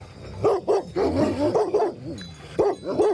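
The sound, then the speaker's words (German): Livestock guardian dogs with sheep on a farm in the canton of Graubünden, Switzerland, bark in a quick, uneven series of about seven or eight deep, harmonic woofs, some with a whining tail, loud, with no talking. “ja, ich sehe unter mir jetzt Schöf und auch Herdenschutzhunde.”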